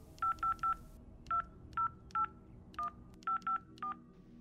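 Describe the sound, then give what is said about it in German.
A series of short electronic keypad beeps, about ten tones in quick irregular groups, as someone picks up a telephone handset and dials a number, clear against a quiet hum. “nimmt einen Telefonhörer in die Hand und wählt.”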